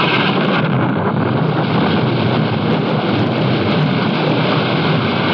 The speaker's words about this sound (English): Rain. Oh, gentle rain. The drought is ended.